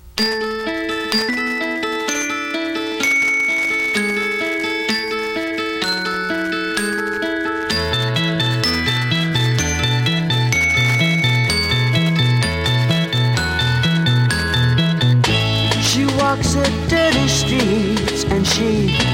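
The intro of a 1967 Canadian pop hit plays loudly and steadily: bright, chiming bell-like tones over a bouncing bass line. The full band swells in near the end, and no one sings yet.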